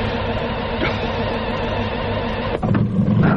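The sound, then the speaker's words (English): A car engine struggling to start labors with a steady, grinding mechanical drone, falters briefly near the end, then picks up again with a rougher, louder low rumble. No voices. “Come on. Come on. Don't stall on me.”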